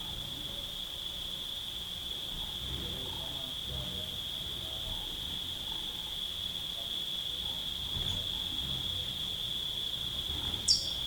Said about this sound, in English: Cicadas in the background.